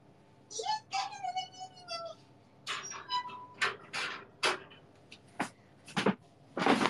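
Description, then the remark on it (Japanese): A cat named Momi gnawing at something, making irregular bursts of sharp, rattling clatter in quick succession after a short stretch of a voice at the start. “もみちゃん、かじってんだ。”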